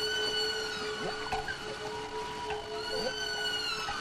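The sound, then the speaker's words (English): A whale call, presented as Henry the Hudson Whale, made of long, sustained tonal moans with a few short rising and falling swoops over a steady hum. It holds an even loudness with no talking. “There's Henry the Hudson Whale.”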